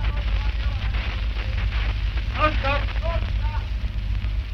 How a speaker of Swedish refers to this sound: Nu borde periskopet stiga. Jo, det här surrande ljudet som vi hör. Det var periskopet som steg.